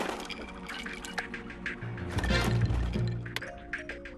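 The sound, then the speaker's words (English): Ice cubes drop and clatter into water inside a metal can to cool it in a dew point and condensation demonstration, with sloshing, splashing liquid and scattered clinks over about four seconds, moderately loud. “Should I add some ice? Yes, please.”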